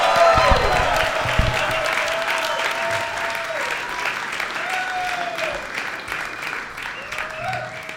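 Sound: audience applause and cheering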